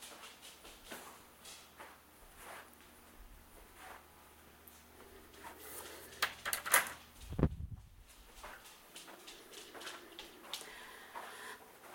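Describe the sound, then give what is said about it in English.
A door swings shut with a solid thud and a brief metallic clatter of the latch as it is locked, surrounded by quieter rustling and shuffling sounds in an otherwise hushed setting. “And let's lock the door.”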